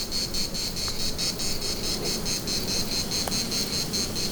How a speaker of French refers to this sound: Vous ne rêvez pas. Des cigales.